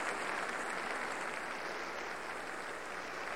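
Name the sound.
concert hall audience applause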